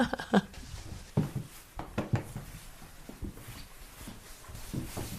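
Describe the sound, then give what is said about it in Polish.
A dog, Maszka, shut in the bathroom, scratches at the closed door with her paw in short, irregular bursts of scraping, with brief pauses between strokes and a faint whimper early on. No one speaks. “Mój piesek ukochany. Chodź, Maszka, drapie łapką.”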